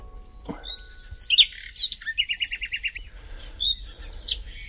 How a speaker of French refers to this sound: Alors, quand j'ai de la visite, je mets le chant des oiseaux. Et c'est comme si que c'était les poupées qui accueillaient le visiteur. Donc, c'est aussi le chant des poupées.